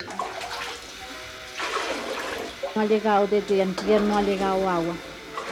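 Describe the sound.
Water splashes and trickles close by, like dishes being rinsed in a tub, with a steady wash of sound; a voice starts talking over it partway through.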